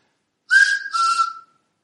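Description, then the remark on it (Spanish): A golfer whistles two clear notes back to back as a warning before hitting the ball, instead of shouting "Fore"; the first slightly higher, the second dropping lower and held a bit longer, breathy, with no talking. “Según cuenta su viuda, mucho tiempo después, jugando al golf, oyó a otro jugador que, en lugar de gritar "Four", que era una voz habitual para indicar que despejen el campo, que voy a golpear la bola, silbó dos notas.”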